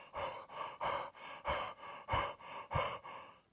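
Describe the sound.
A voice imitates heavy panting: about six harsh, breathy in-and-out gasps in a steady rhythm, fairly loud, with no talking.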